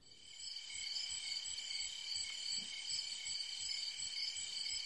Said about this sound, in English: Well, now, maybe, I don't entirely agree with the crickets.